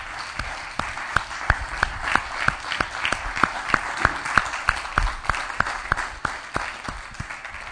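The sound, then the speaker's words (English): A crowd at a church service gives the Lord a sustained standing-ovation applause, a dense wash of clapping with a steady, rhythmic beat of sharp claps about three per second running throughout, loud and unbroken by any voices. “Come on, let's give the Lord a standing ovation.”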